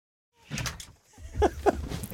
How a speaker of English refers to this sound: I hear somebody at the door. Come on in.